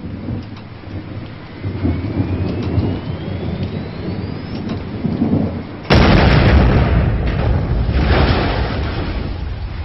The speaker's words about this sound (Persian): این نزدیک ما رو نشون کردن؟ چیزی نیست دکتر جون، کور شلیک میکنه. حالا علالا یه وقتایی یه جایی هم میخوره.